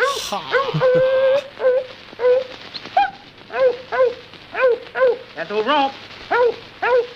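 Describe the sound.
In a 1929 recording, a man gives commands to a dog and answers them himself by imitating the dog. He produces a rapid run of short yelping barks and whiny whimpers, fairly loud, after a brief bit of speech at the start.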